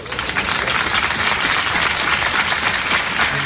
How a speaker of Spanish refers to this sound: Es el aplauso de los vecinos de Algeciras tras el funeral multitudinario de despedida de Diego Valencia, con su mujer y sus hijos rotos por el dolor.